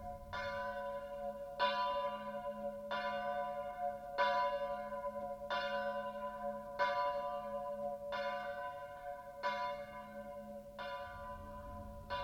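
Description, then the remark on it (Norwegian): The bells of the white church at Sør-Flatanger on the coast ring out on their own, a steady series of rich, resonant strikes about every second and a half, each tone lingering into the next, with a faint low rumble underneath. “Og det er ikke tilfelle at vi akkurat i dag velger klokkene i Sør-Flatanger hvite kirke ute ved kysten.”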